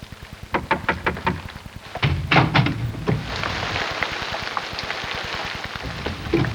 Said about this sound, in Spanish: Y ya viene. Voy a abrir la puerta.